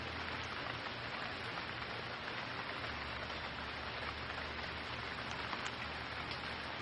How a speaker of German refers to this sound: Höre, wie die Tropfen zu einer Sinfonie des Regens werden.